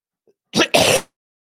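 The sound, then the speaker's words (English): A harsh cough in two quick, loud, breathy bursts, the second longer than the first, then silence. No talking. “I tried to mute that cough.”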